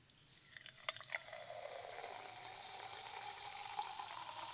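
Sparkling apple-based juice with mint fizzes after being poured, a steady soft hiss of bubbles with a few sharp pops and crackles early on, quiet and with no one talking.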